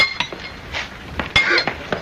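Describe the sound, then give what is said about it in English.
A double jack hammer strikes drill steel held by another man, again and again, giving a string of sharp, ringing metallic clinks at an uneven pace, moderately loud, with no voices. “What if the hammer miss?”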